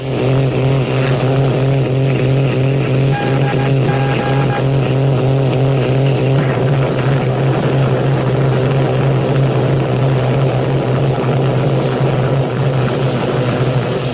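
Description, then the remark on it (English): Direct radio jamming: a loud, steady droning buzz with a strong low hum, warbling pulsing tones and a wash of static filling the whole clip, with no voices. “Now, here's what direct jamming sounds like.”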